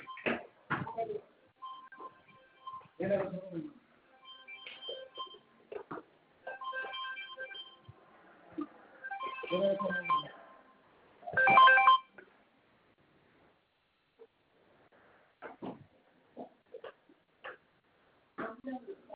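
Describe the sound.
Phone dialing tones and ringing chirps sound in short bursts as a call to a lawyer is placed, mixed with brief voices and bumps or clatter, then fade into quieter scattered sounds near the end.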